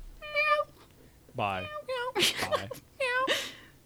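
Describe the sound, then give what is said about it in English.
A person imitates a cat while saying goodbye, letting out about four drawn-out, pitch-bending meows in quick succession, clear, with no other sounds between them. “You can't say bye unless you meow.”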